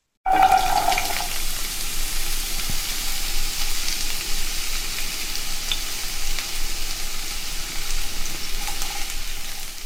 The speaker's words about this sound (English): Sizzle for hot, sizzle, Yeah, sizzle. you got a little sizzle up in there.